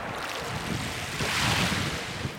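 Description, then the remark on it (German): Sea waves surge and wash around rocks in a steady, broad roar, swelling slightly midway, with gusty wind noise over it and no voices. “Und das Meer kreist unten um die Felsen.”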